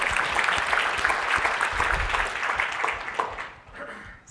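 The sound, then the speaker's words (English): A conference audience claps together for the conference sponsors, dense and steady applause for a few seconds that thins out and fades toward the end. “So one round of applause for the sponsors of this conference.”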